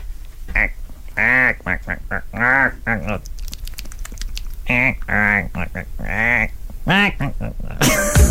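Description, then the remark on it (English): A person imitates a family of ducks eating dinner with a string of nasal, buzzy quacks in short bursts, mixed with rapid clicky pecking sounds like bills snapping up food, fairly loud. “One of them was to hear a family of ducks eating dinner.”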